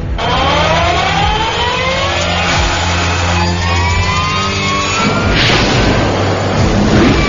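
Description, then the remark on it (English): The auxiliary power unit (APU) of a 57,000-pound turboprop airplane, jump-started directly from the battery with small jumper cables, fires again and roars steadily, burning off fuel built up from failed start attempts; its turbine whine climbs and shifts in pitch over a dense, loud rumble, with no one speaking. “The APU's clearly firing again.”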